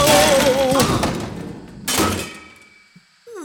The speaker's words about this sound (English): What? An explosion? Exploding anchovies. Explode-chovies. Anch-plodies.